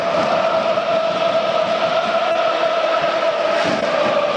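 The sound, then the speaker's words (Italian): A large crowd of Parma football fans sings and chants together in the stadium during a match against Atalanta, at a steady, loud level, their massed voices blending into a sustained, droning roar with no pauses. “Non smettono di cantare i tifosi del Parma, ma hanno decisamente preso fiato quelli dell'Atalanta.”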